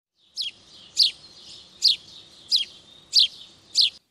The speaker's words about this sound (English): Listen for the short calls of house sparrows.